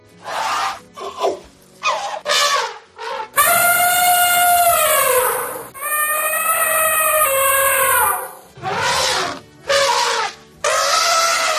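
An elephant trumpets repeatedly: short blaring bursts, then two long, loud, brassy calls lasting a few seconds each, followed by more short blasts. No one speaks.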